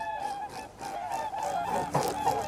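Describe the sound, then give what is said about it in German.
Repeated honking bird calls, some overlapping, ring out at moderate volume over a steady rush of wind and traffic from a nearby highway, in mid-January. No one speaks. “Vogelrufe erschallen, gebettet in das Rauschen des Windes und der nahen Autobahn.”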